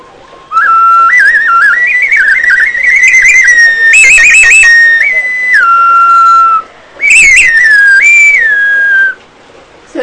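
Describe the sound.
A prehispanic clay whistle imitates hummingbird song: a loud, piercing tone that steps up and down in pitch with quick warbles, played as a long phrase followed by a shorter one.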